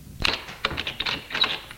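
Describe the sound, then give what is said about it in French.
An apartment door on the second floor of an old, run-down building opens after the bell is rung, with a quick series of sharp clicks and rattling taps from the latch and handle, irregular and fairly crisp, with no voices. “La porte s'ouvre.”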